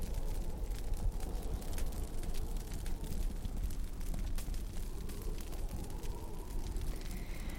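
A steady, roaring wind of a snowstorm, heavy in low rumble with a hissing top and scattered crackles, holding an even loudness throughout with no voices.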